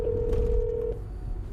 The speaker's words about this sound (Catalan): En Joan tecleja el telèfon.